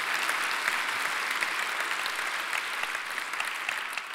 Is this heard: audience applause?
yes